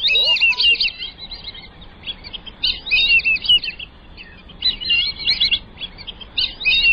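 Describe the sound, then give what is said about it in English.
Black-bellied whistling ducks give repeated bursts of shrill, high, wheezy whistles, several quick notes per burst, rising and falling in pitch with short pauses between. No one speaks. “And then there's that whistle.”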